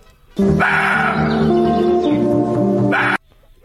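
A roe deer gives one loud, drawn-out yelping whine lasting close to three seconds, nasal and harmonic-rich, its pitch wavering and stepping slightly before cutting off abruptly. No one speaks.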